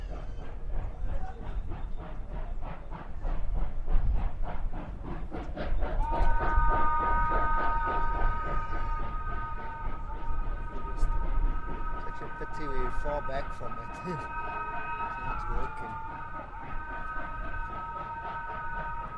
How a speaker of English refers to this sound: I think this engine's battling to get us even going up here. So you can hear the intensity is actually pushing, trying to get us going. It hasn't wheel spun, it hasn't slipped yet. Yeah. But there you can, yeah, the engine's working hard.